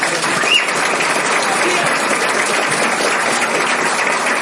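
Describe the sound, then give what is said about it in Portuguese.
Sustained applause from an audience for a professor's talk, a dense steady patter of many hands clapping at once, loud and continuous with no voices standing out above it. “Uma salva de palmas.”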